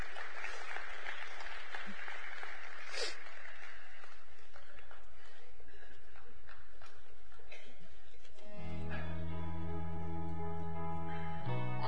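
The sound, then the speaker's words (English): A crowd applauds in a steady, dense wash of clapping for about eight seconds, then sustained musical chords come in and take over as the clapping fades. “Y'all come give a big round of applause.”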